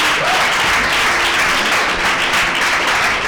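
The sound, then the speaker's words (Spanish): Loud, sustained audience applause fills the whole stretch, a dense wash of many hands clapping at once with steady intensity and no pauses, welcoming two arriving guests on the show Despierta UMH. “Un fuerte aplauso para ellas, que están llegando aquí.”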